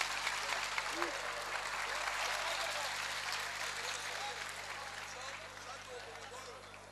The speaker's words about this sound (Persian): واقعا کف زدن